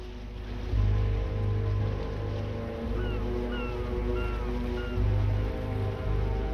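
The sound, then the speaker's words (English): A yacht's engine drones steadily with a deep, throbbing low hum as it motors through run-down, grimy industrial docks in sunshine, while water churns and splashes continuously; a few faint high chirps drift in the background. “Grimy industrial surroundings slip past, and he leaves his boat's wheel momentarily to peer over his stern rail.”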